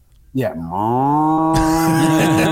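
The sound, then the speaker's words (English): A person voices an impression of a reviewed car's mooing engine: one loud, low droning hum that dips in pitch at the start, then holds steady for about two seconds. “There's the engine impression of the first one.”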